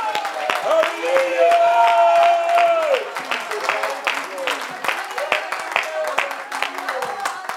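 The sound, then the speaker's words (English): An audience claps hands in praise of God in a loud, irregular patter of sharp claps while many voices shout and call out over it, the cheering strongest in the first few seconds. “If God has ever performed a miracle in your life, why don't you shout unto God and clap your hands and magnify the name that is above every name.”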